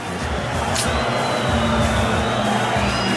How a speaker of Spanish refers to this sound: Y yo quiero oír la reacción de la gente porque la gente está molesta en el Campín, ¿ah? Sí, se ven las jetas largas.